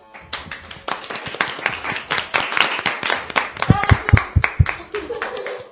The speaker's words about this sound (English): We have just listened to a group of students from first year secondary school from José de Churriguera and I think they did it really well. This was a really good job, so let's get an applause for all of you.